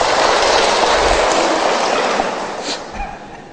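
A Buddhist audience at Thiên Phước temple applauds with dense, steady clapping that holds strong for a few seconds, then tapers and thins out toward the end. No one speaks over it.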